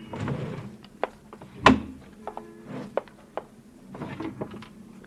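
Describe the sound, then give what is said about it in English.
A wooden drawer of a roll-top desk slides and shuts with a solid thunk as the desk drawers are searched in an upstairs tenement room used as an office. Scattered clicks, knocks and rustling of handled items surround it, with no talking. “Same things in the desk drawers, Danny.”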